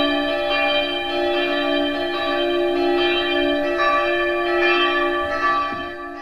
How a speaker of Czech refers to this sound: Ty 3 zvony už dělají jako velmi kvalitní souzvuk dohromady.